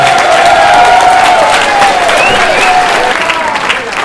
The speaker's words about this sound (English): I want to just close by also thanking our friends and allies down in Pennsylvania. We have had fearless stand up and give our friends in Pennsylvania a round of applause right now.